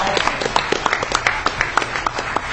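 A crowd at DEF CON applauds steadily after a last prize drawing, many hands clapping in a dense, irregular patter that stays fairly loud and even throughout, with no voices standing out.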